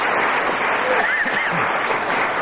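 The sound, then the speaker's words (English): An audience applauds as the word "silence" is guessed in a game of charades: a dense, even wash of many hands clapping at constant loudness fills the whole stretch, with faint voices barely surfacing beneath it. “The word silence received applause from the yes, audience.”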